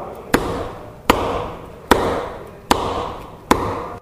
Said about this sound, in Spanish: Por acá tenemos un martillo.